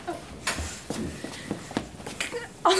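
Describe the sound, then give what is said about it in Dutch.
Quick, fairly regular footfalls thud along, as if someone is running on a hard floor, with a louder, brighter burst of noise at the very end. “Oké, we gaan rennen.”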